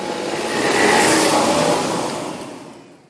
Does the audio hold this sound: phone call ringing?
no